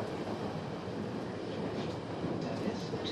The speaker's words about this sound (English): I hear the clacking sound of the track, a constant soundtrack to people silently reading newspapers and books on the train.